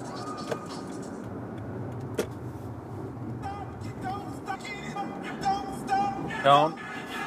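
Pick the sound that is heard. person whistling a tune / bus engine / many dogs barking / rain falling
bus engine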